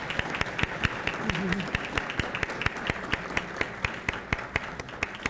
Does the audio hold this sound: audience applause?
yes